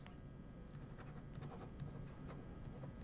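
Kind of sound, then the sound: tool, typing on a keyboard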